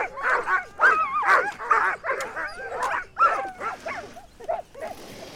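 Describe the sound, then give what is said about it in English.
A sled dog team led by former Iditarod champion Pete Kaiser barks and yips excitedly in a dense, overlapping chorus, high-pitched yelps and whines layered over one another, continuous with no clear rhythm, leading a caravan of trucks along an ice road. “Former Iditarod champion Pete Kaiser led his dog team in front to send him off in style.”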